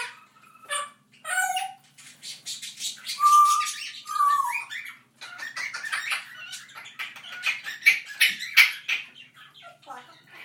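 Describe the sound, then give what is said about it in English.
At least two budgies chatter in a cage, a busy stream of high warbling chirps, squeaks and buzzy trills with short whistled notes, the birds overlapping and going nonstop. “I think there's at least two budgies chatting in that cage.”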